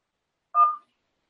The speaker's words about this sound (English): All right. So the first number is dialing.